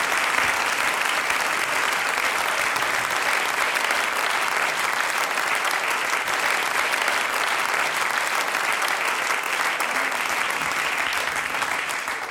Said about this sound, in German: Ja, wunderbar. Großer Applaus.